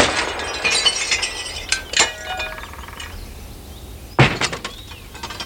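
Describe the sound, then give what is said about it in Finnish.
The glass of a phone booth shatters in a loud burst of bright, tinkling fragments, then a second sharp crash follows a few seconds later with more scattering shards trailing off. No voices. “Siinä meni meidän viimeinen puhelinkoppi.”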